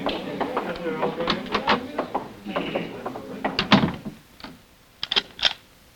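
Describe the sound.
A door lock turns with a few sharp metallic clicks and a short rattle of the mechanism, after a stretch of muffled shuffling and indistinct voices.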